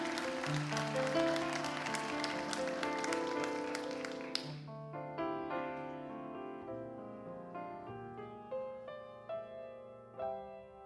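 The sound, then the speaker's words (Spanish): A burst of audience clapping rises over soft instrumental music for about four seconds, then cuts off, leaving the gentle melody playing alone. “¿Y el aplauso? Ahora sí.”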